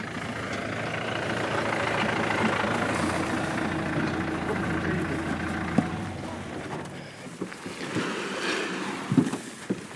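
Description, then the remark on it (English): The engines of three pickup trucks loaded with lions idle in a boma where the lions will be kept, a steady, low rumbling drone that eases off partway through, followed by a few scattered metallic knocks and clunks. “And already there are 3 pickup trucks in here, loaded up with lions.”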